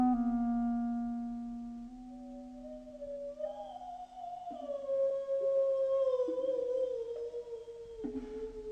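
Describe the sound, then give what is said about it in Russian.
A dog named Tara howls in one long, unbroken wail, starting low and steady, then sliding upward into a higher, wavering pitch that holds to the end. No one speaks. “Почему так воет Тара?”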